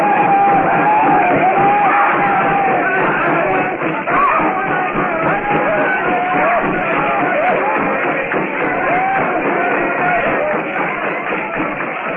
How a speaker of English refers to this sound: Blazing hut casts a lurid glow over the compound. The blacks leap and yell as they circle the fire trap.